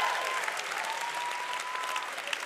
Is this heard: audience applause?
yes